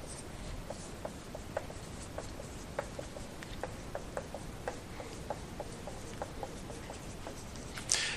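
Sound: writing on a board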